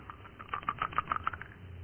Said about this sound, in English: your turn to throw the dice.